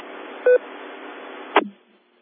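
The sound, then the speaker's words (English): An incoming phone call: steady telephone-line hiss, a short electronic beep, then a sharp click as the line drops to silence. No one speaks. “Okay, well, we got a phone call coming.”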